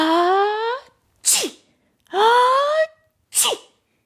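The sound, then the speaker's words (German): Two loud sneezes in a row from a dragon whose nose is tickled by floating dandelion seeds. Each is a rising drawn-in "ah" followed by a sharp, breathy burst, with brief pauses between them and no talking. “Er kann gar nicht mehr aufhören damit.”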